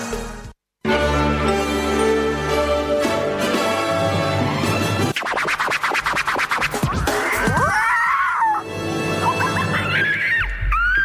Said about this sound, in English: Good morning, you're on 2SER 107.3, and that lovely screeching means that this is the Vulture's Nest.